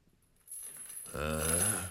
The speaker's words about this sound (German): Plötzlich vernahm er ein klirrendes Geräusch. So als ob jemand Ketten über den Kellerboden ziehen würde.